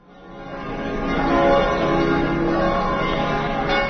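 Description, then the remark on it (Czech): Orthodox church bells peal together in a full, resonant wash of overlapping tones, swelling in loudness during the first second and a half, then ringing steadily and loud with no voices. The bells ring at exactly 11:30 on all Orthodox churches in Belgrade, Serbia, for the city's feast day, Spasovdan. “Tačno u 11.30 začula su se zvona na svim pravoslavnim crkvama u Beogradu.”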